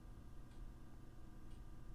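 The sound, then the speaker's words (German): The clock of a gas boiler ticks quietly and steadily, two soft clicks about a second apart, set against a constant low humming drone of a fan. No one speaks. “Und dieses Ticken von dieser Uhr.”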